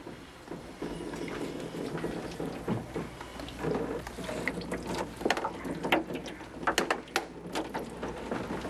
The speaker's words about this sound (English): The sheets of handmade paper that we just did are now put in this old screw book press. What I'm going to do is press it as hard as I can. You'll see the water coming out.